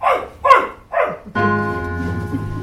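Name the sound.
dog barking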